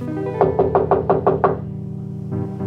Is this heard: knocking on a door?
yes